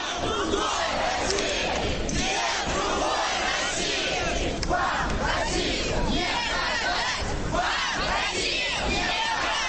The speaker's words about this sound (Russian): Кричали и скандировали молодые люди под чутким присмотром ОМОНа и милиции.